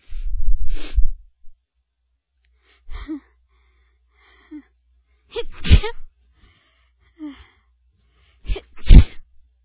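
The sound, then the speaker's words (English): A series of sneezes from a person sitting outside at night under a maple tree, set off by pollen and maple blossoms, several sharp bursts spaced a few seconds apart, each preceded by a quick catching inhale, with the last ones loudest and most forceful. “Oh, I feel another sneeze.”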